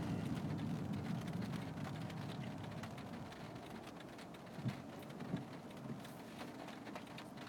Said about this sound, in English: And now it's actually raining.